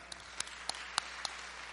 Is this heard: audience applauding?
yes